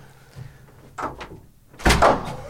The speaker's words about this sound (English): It's a tricky door.